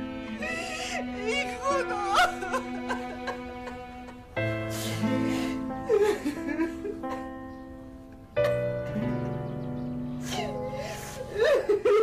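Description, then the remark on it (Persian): A person cries and whimpers in shaky, gasping bursts, the sobs rising and breaking into moans across several waves, fairly loud over a steady tonal background. “گریه نکنات، سه شنبه میبرم ات دادگاه. حالا دیگه گریه نکن باشه.”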